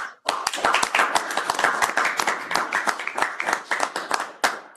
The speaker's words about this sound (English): So I would just like a round of applause and recognition for the accounting team because this is an outstanding accomplishment and it speaks to transparency and full disclosure of everything we do.